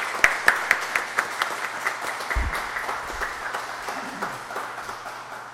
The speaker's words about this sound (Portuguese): Muito obrigado, eu gostaria de uma salva de palmas para o homenageado